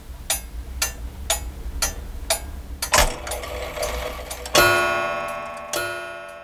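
A Bornholm grandfather clock ticks in a steady, even rhythm, about two ticks per second. Then it starts to strike, with ringing chime tones that hang and decay.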